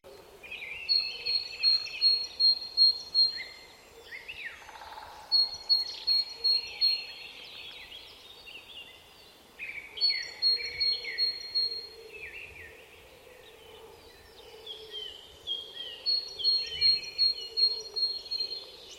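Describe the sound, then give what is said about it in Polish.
A great tit sings its repeated two-note phrase in rhythmic bursts of several notes, each burst returning every few seconds, with fainter birdsong in the background. “Jednym z nich jest głos sikory bogatki, o który pytacie wczesną wiosną. Brzmi on tak.”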